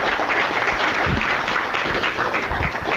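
A crowd applauds steadily, a dense wash of many hands clapping at once that holds at an even, fairly loud level for the whole stretch without any voices.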